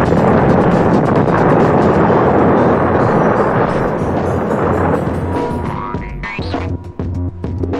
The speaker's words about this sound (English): On March 6, 1970, as the weatherman group on West 11th Street put the final touches on the bomb, there was a short circuit in the wiring, and the device accidentally exploded.